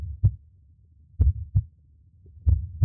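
A slow, muffled heartbeat thumps in close, deep lub-dub pairs, three beats spaced about a second apart with quiet low rumble between them.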